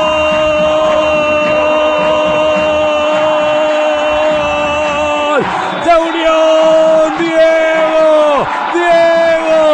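A stadium crowd roars steadily after a goal by Diego Armando Díaz for Unión, awarded after a VAR review. The loud, unbroken wall of cheering carries sustained, horn-like tones, with a couple of brief downward swoops midway and near the end.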